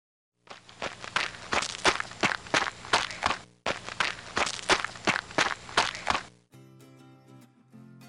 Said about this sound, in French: C'est quelqu'un qui court, monsieur. Voilà, c'est quelqu'un qui court.